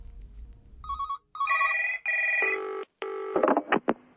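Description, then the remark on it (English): A telephone rings with loud, clear electronic tones: several steady beeps in quick succession, ending in a rapid, chirpy burst. There is no talking. “And now it's time to chat to one of our listeners on the phone.”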